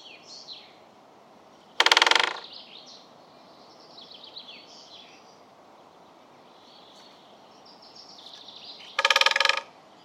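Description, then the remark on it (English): A woodpecker drums twice on wood, each a short, rapid, loud roll lasting about half a second, spaced several seconds apart, with faint birdsong chirping in the background. “Now here's a woodpecker drumming.”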